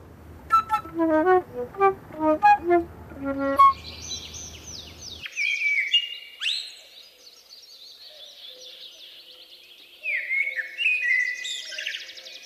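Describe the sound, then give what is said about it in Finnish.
A few seconds of clear, repeated melodic tones give way to lively birdsong: bright, high chirps, whistles and trills in quick varied phrases, pausing briefly before resuming. “Voi tätä olisi kuunnellut pidempääkin, tätä kaunista linnunlaulua.”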